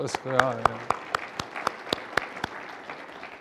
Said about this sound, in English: Someone named Aaron is grateful for finding the love of his life and getting married. Everyone claps.